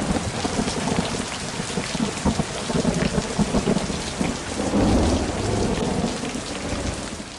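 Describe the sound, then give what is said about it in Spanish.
Heavy rain pours steadily and loudly, a dense hiss with spattering drops on surfaces, and low rumbling swells underneath midway through; no one speaks. “Parece que nunca dejará de llover.”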